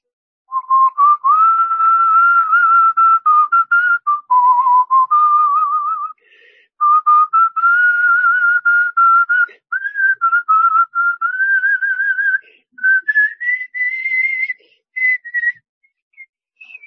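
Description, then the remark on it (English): A person whistles a wavering melody for about fifteen seconds, the notes gliding and rising in short phrases with brief pauses between them, clear with no talking. “My whistle is no good either.”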